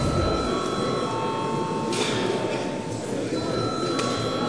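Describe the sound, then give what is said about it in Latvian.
A session bell, rung at the chair's request before deputies register their attendance, rings continuously for several seconds, a steady, bright metallic tone with clear overtones held over a broad hiss, with no talking. “Lūdzu zvanu.”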